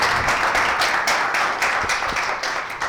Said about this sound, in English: Please give these panelists a round of applause. We're really happy to have them here.